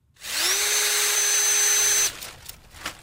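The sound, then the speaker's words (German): A cordless drill in an experimental vineyard, used in a research project to combat fungi deep in the wood, whirs up to speed with a rising motor whine, holds a steady, loud buzzing pitch for nearly two seconds, then cuts off abruptly, leaving faint clicks and rustling. “Ein Akkubohrer, eine Tüte voller kleiner Plastikbehälter und darin jeweils 5 Milliliter hellbraune Flüssigkeit.”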